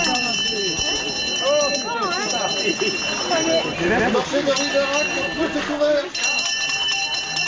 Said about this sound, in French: Oui, alors une fois que le contrôle très strict est fait, les apporteurs étalent les truffes sur des tables. Et puis à 9h précise, la cloche retentit.